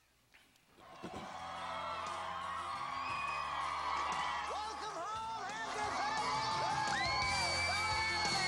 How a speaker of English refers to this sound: We got out of the limo. There's just so many people there cheering for us so that we could have a new life.